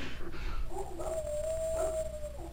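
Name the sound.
dog whimpering and yipping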